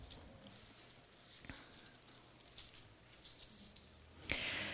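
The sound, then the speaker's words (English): Pages of a book being turned to John chapter 1: soft papery rustling and brushing, with a sharper flick near the middle and a louder crisp flip near the end, fairly quiet. “Boy, when you get used to technology, you're sort of turning the pages, you get a bit lost.”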